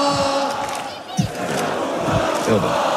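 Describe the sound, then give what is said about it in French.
A large crowd of football supporters chants and roars together, a dense, loud wall of voices with rhythmic shouted bursts echoing in a hall, as club president Nasser Al-Khelaifi leads the crowd while celebrating being European champions. “président Nasser Al-Khelaifi prend une première fois la parole, il appelle ses supporters à faire la fête dans le calme et il se transforme même en chauffeur de foule.”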